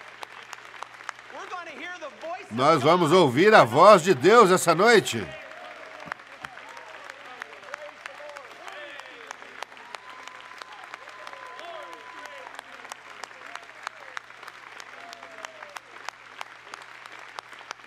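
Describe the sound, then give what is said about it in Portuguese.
An audience at a church service claps for God steadily throughout, a dense crackling wash of applause. Near the start a loud voice speaks over it briefly, then the clapping carries on alone at an even level. “Vamos dar a Ele uma grande salva de palmas.”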